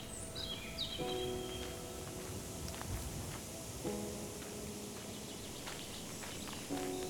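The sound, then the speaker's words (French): A steady, airy rustle of wind moving through leaves fills the whole scene, with scattered bird chirps and a few short tonal calls rising above it. No one speaks. “J'entends aussi le bruit du vent dans les feuilles.”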